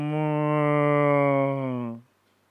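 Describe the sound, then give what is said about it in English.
A person imitates a cow's moan with one long, steady, low vocal tone held for about two seconds, then cutting off into silence. Fairly loud. “When they are moaning like this, cowherd boys became alert.”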